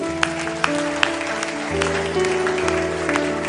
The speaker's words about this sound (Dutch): Zullen we deze mensen een applaus geven?